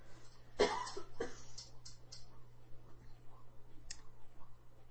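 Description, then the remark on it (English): A dog chewing on a non-squeaky rubber bone: a couple of louder squelching bursts early on, then sparse, irregular soft clicks over a steady low hum, with no one talking. “That is a funny noise that dog makes.”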